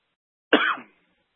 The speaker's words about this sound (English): Man, I didn't think I was going to cough this much.